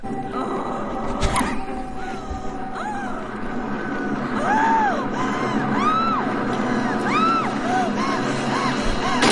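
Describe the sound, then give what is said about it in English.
Exaggerated sex screaming noises: a series of loud, high-pitched vocal cries that swoop up and down, repeating in quick succession over a busy, noisy background. “Can we play the bad sex noises?”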